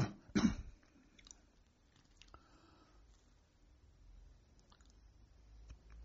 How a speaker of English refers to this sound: Gonna cough.